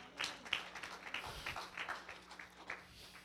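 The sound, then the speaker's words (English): An audience claps in worship to the Lord in a steady, continuous patter of many overlapping hand claps, fairly soft and even in level throughout, with no voices over it. “Give the Lord a clap of worship tonight.”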